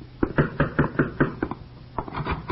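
A quick series of firm knocks on a wooden door, about seven raps in a steady rhythm, then a brief pause and a couple more softer taps at the end.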